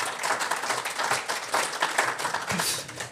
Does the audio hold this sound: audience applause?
yes